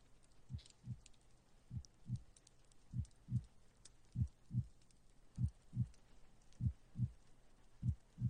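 A man's steady heartbeat heard through a stethoscope during an examination: paired lub-dub thumps, low and muffled, repeating evenly about every second and a quarter, alone with faint rustling in the background.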